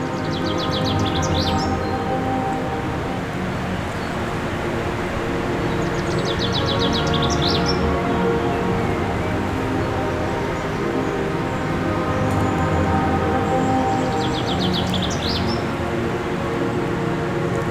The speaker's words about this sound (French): Le tumulte des torrents. Qui recouvre en toile de fond le chant des oiseaux.